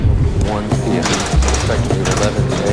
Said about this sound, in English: Now two heavy metal doors part.